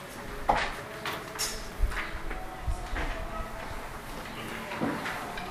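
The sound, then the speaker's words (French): A door is pulled shut on request at the start of a group text-study session, with a few muffled thumps and knocks spread over several seconds and faint background murmuring and rustling. “tu peux fermer la porte si ça ne te dérange pas.”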